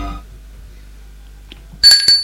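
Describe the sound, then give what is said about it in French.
After a stretch of near silence, a doorbell at the front door rings out in two quick, bright, buzzy electronic tones, loud and with nothing else heard. “On sonne à la porte d'entrée.”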